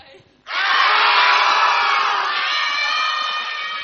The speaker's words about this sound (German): So, und jetzt bitte ich euch, ja, 12 starke Männer, einmal aus Leibeskräften, so laut ihr könnt, zu schreien. Wirklich zu schreien. Ja, wir wollen jetzt was hören.